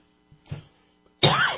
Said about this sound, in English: I'd like to, except I'm coughing right now. Well, you know, we've got a bunch of debris floating in the air. You know, you can't see it, but we have movers.